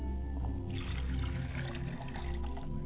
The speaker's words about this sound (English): As I pour a glass of water on behalf of my Father's Spirit, I say Ashe.